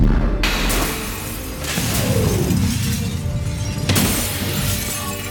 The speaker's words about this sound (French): Et une explosion dévaste l'appartement. Le souffle se fait sentir jusque dans la rue.